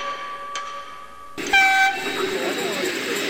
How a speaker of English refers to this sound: Welcome aboard the Val du Haut-Morin's little touring train. I trust you are comfortably seated for our trip that will take us to the heart of this regional preserved natural environment.